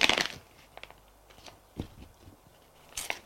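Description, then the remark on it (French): A freshly written sheet of paper being crumpled and handled: crinkly rustling in a few short, crackling bursts, loudest at the start and again near the end, with quiet pauses between and no voices. “Prit la feuille de papier qu'il venait d'écrire”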